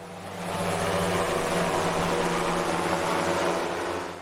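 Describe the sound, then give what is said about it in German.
A delivery drone flies past with a steady, droning whir of rotors and a low humming tone. It swells in quickly, holds evenly for a few seconds, then eases off, with no talking. “Ganz genau, Lieferung per Drohne nämlich.”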